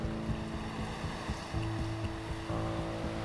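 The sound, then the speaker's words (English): Steady rushing spring water flows continuously and fairly loudly, with a low rumbling undertone and some wind buffeting, and no voices. “Oh gosh, this is beautiful, beautiful water here.”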